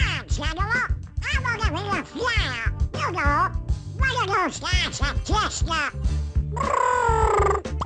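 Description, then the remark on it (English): A Disney cartoon duck character's voice chatters in loud, squawky, quacking bursts, continuous for several seconds, ending in a longer raspy squawk; a human voice performs the duck sound. “That, of course, is Donald Duck”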